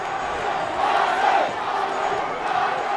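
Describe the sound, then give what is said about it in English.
A stadium crowd of about 16,600 football fans at Jerry Richardson Stadium roars and cheers in a continuous, dense wash of many voices, fairly loud throughout and swelling slightly around the middle, with no single voice standing out. “This crowd was ready for some football.”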